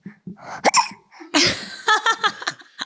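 A baby girl, about to turn one, hiccups, a string of short, sharp hiccups with squeaky little voiced bursts and quick breaths between them, coming in an uneven rhythm.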